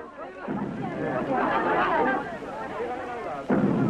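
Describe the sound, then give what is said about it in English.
Two huge, thunderous footsteps of Godzilla in a Godzilla film land about three seconds apart, each a loud booming impact with a long rumbling tail, shaking buildings and trees, over a steady wash of crowd noise and panicked voices. “Even before you saw Godzilla, you heard his footsteps falling on the earth ominously, shaking buildings and trees.”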